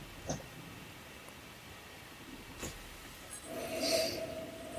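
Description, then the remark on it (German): Someone sniffs the aroma of a drink: two short sniffs spaced a couple of seconds apart, then a longer, breathier inhale through the nose, with a faint ringing tone underneath it. No one speaks. “Der riecht ganz anders, den wir jetzt haben hier. Ich rieche gerade schon.”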